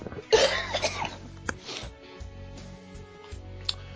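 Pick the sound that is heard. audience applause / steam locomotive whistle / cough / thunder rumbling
cough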